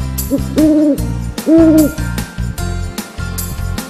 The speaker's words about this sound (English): Owl.